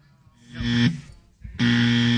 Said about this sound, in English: All right, calm down on the buzzer.